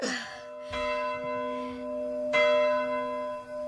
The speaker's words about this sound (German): würdest du dann bitte mal die Glocken läuten?